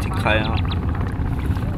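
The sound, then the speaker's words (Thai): A motorboat engine drones steadily on Inle Lake in Myanmar, a loud continuous low rumble, with a brief voice cutting in over it near the start. “ชาวนาพม่าที่ทะเลสาบอินเลกล่าวว่ามีจำนวนเรือยนต์มากขึ้นและสร้างความเสียหายแก่สวนมะเขือเทศลอยน้ำของเขาที่ปลูกในทะเลสาบอินเลค่ะ”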